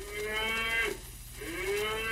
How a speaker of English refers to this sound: And now I'm a moo cow.